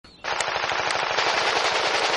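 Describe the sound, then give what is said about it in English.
Rapid, continuous machine gun fire from a first-person shooter video game, a loud sustained burst of fast rhythmic shots with bright crackling noise, beginning abruptly after a brief quiet moment and running without pause. “Eating snacks and playing first-person shooters with your bros.”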